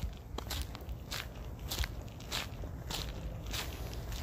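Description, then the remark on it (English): Steady footsteps of a person walking up a hill outdoors, each step a crisp crunching scuff landing at an even, unhurried pace, clear, with no voices over them. “The sound, the footsteps, reminding me, yes, I'm alive, I'm walking.”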